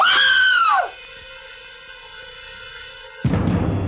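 A woman lets out a single loud, high-pitched scream at the sight of a corpse in a house, sliding downward and cutting off, followed by a lingering ringing tone and a burst of noisy sound at the end.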